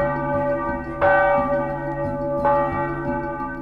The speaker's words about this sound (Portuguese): Os sinos da igreja Martin Luther não tocam mais até segunda ordem do Ministério Público. O barulho das badaladas foram alvo de reclamação de um vizinho, que através do órgão de justiça fez a igreja cessar o toque dos sinos.